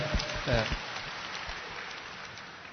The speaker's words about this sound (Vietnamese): Cảm ơn, cho một tràng pháo tay, nói rất đúng.